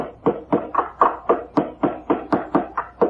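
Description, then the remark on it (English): A hinge pin is hammered into a screen door being hung for summer: about a dozen sharp, evenly spaced knocks in quick steady rhythm, each a bright woody-metallic tap of similar loudness, with no voices. “Let me pound this pin in here.”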